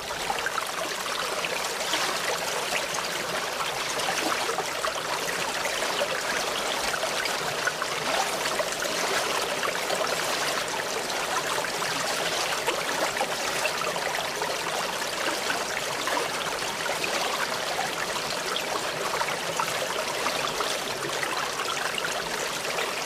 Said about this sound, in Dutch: Door het riool stromen ze naar een waterwasmachine.